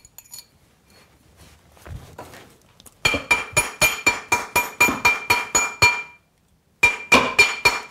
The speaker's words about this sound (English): No more hammering than what I did with the last one.